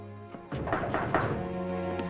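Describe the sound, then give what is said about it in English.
A few dull thumps on a door sound over a low steady hum, landing irregularly, fairly soft, with no one speaking. “He goes to answer his door again.”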